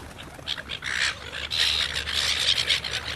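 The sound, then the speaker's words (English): Seagulls squawk and cry in a noisy overlapping chorus, harsh repeated calls filling the air with no pauses, over a low steady background rumble. “Get out of it, bloody seagulls.”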